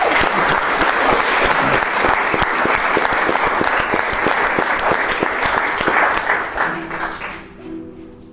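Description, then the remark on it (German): A crowd claps steadily and loudly, a dense patter of many hands that carries on for several seconds before tapering off as a low hum rises underneath, applause given in advance to encourage a singer before a song. “Ich würde sagen, du bekommst jetzt erstmal zur Ermutigung einen Applaus für den Vorhinein.”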